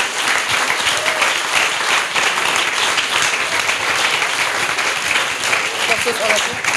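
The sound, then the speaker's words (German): A crowd claps steadily for a list of people just named from the stage, a dense, continuous wash of applause holding at a constant loud level for several seconds without a break. “Für die einen herzlichen Applaus.”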